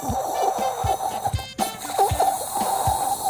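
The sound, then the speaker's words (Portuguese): A voice imitates a sputtering, empty shower in a bathroom that has no water after an overnight supply fault: a few seconds of hissing and gurgling mouth noises with rhythmic dry pops and a brief pause, like air spitting from a showerhead. “assim que cheguei à casa de banho e abro o duche, não há água.”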